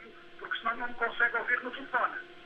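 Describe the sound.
A caller's radio, turned up very loud, blares through a telephone line, its tinny, narrow-band voice running on continuously in syllabic bursts, fairly loud and slightly muffled.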